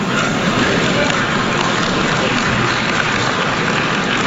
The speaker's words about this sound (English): Some applause in the room here.